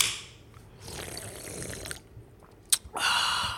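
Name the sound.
drink can being opened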